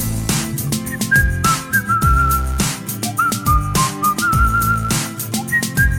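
A high, clear whistle plays a short repeating melody over a steady backing beat with deep bass and drums, the whistled notes sitting prominently above the music throughout.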